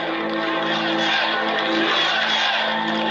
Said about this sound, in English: Crowd is chanting.